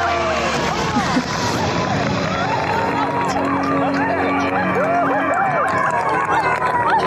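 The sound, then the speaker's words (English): A large group of Survivor players roars and cheers nonstop as the David versus Goliath season theme is announced, many voices whooping and yelling over a dense wash of clapping, loud and sustained for the whole stretch without letting up. “I mean, that was not a golf clap. They were nuts.”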